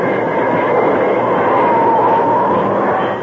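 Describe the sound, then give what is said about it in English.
A steam train braking to a stop: a loud, steady rumble of rolling wheels and carriages, with a thin squealing whine rising faintly midway before the noise eases slightly at the end. “As the train jerked to a stop, the outlaws in the first cattle car were thrown off their feet.”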